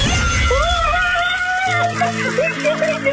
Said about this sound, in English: Oh my God, I can't believe this. I'm in the toilet and I'm screaming and I think everyone is wondering what's happening.